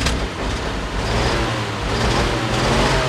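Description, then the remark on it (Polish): A restored Lublin 51 truck with a wooden cab, built 1951–59 at the Lublin truck factory, revs loudly and steadily, a deep rumbling drone with a rough, throaty mechanical roar as the vehicle drives along. No voices. “Jest to samochód Lublin 51 z kabiną drewnianą.”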